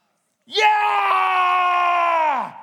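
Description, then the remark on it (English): A single voice lets out a loud, sustained battle yell imitating charging soldiers, rising sharply then holding steady for about two seconds before dropping off abruptly. “And then everybody yells like, yeah!”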